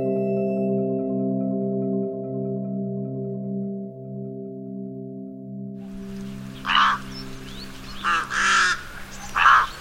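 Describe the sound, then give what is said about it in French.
A sustained low musical drone fades out, then harsh rook caws and chattering break in from about six seconds, several loud calls in quick bursts over a busy flock-like background. “Ce que vous entendez, ce sont des cris, des bavardages de corbeaux freux.”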